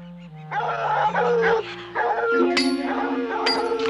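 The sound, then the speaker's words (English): Several caged dogs bark and howl together in a loud, continuous, overlapping chorus, with sharper yelps breaking through near the end. No one speaks. “puts down his axe as he hears the dogs”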